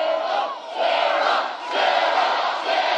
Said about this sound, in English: The crowd chanted for Alaska Governor Sarah Palin while waving off the heat with cardboard fans provided by the Coalition for Clean Coal Electricity.